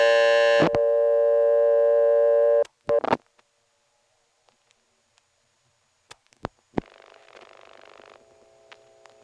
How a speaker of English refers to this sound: And that's the class of service tone which the operator will hear shortly after she answers.